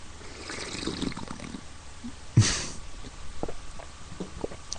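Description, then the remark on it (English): A single loud, airy slurp of tea from a cup, with quieter faint rustles and small clinks around it and no talking. “I don't normally slurp my tea.”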